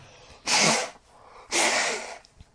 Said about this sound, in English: I'm going to blow my nose.